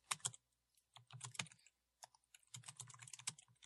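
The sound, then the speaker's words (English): Rapid clicking of computer keyboard keys in three quick bursts separated by short pauses, fairly crisp, with no voices. “Typing time. Yep. It's typing time.”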